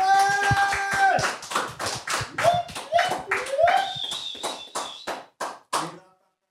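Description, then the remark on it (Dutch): A small audience claps for AFCON, sharp hand claps tapping out at a steady pace, with some high whoops or cheers mixed in early, then thinning to a few last claps before stopping. “En ik zal vragen dat de mensen die hier zijn een applaus geven voor de AFCON.”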